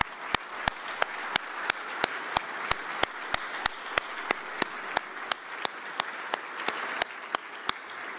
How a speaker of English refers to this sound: If President Jewell and all of our elected officials could please stand up, so we give you a round of applause for your leadership and for your sacrifice.